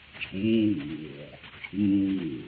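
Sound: doves cooing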